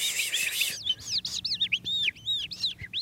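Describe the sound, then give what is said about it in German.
An animal-voice imitator whistles with the mouth a close imitation of skylark song: a fast, continuous run of high, warbling chirps and trills, fairly loud, with no talking. “Zum Beispiel diese Feldlerche hier stammt aus dem Mund von einem Tierstimmenimitator. Das macht jemand nach, mit dem Mund.”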